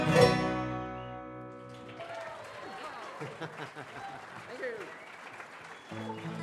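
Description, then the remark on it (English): A final sustained chord of a bluegrass song rings out and gives way to a steady wash of audience applause, dense clapping with scattered cheers and whoops that carries on for several seconds. “Okay, thank you very much. That's great applause.”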